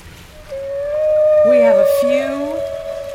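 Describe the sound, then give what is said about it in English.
Whale vocalizations: a long, steady tonal moan held for nearly three seconds, joined midway by lower rising and falling calls, all clear and fairly loud with no talking. “And here come the whales.”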